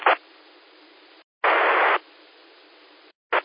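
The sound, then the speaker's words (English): A radio repeater keys up carrying only hiss: bursts of loud static cut in and out with short gaps, with fainter band-limited noise between them, and no voice comes through. “No joy, no copy. You brought the repeater up and that's about it.”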